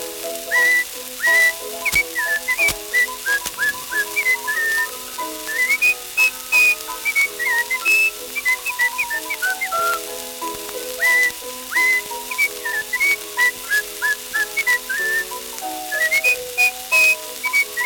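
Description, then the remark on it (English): Someone whistles a lively, bouncing tune, clear, the melody running continuously for the whole stretch over steady instrumental accompaniment, with no one talking. “Oh, I never heard him talk to anybody in my life, but he's happy when he whistles this tune.”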